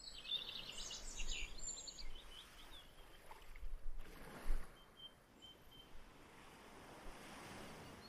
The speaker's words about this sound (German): Von Weitem hörst du die Geräusche des Meeres.